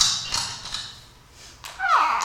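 A door opening sound effect: a few soft knocks and clunks of the latch, then a squeaky hinge creak that slides downward in pitch. No voices.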